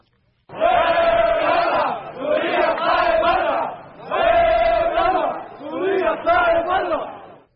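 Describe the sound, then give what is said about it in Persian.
A large crowd of mourners at the Beirut funeral of former Lebanese prime minister Rafik Hariri chants anti-Syria slogans in unison, four loud rhythmic bursts separated by brief pauses, the massed voices forming a dense, shouting roar. “بسیاری از عزاداران شعارهای بر ضد سوریه را سر داده سوریه را به دست داشتن در حادثه انفجار بزرگ به خاطر قتل رفیق حریری متهم کردند.”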